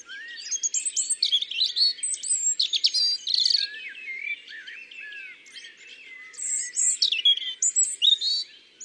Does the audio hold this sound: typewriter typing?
no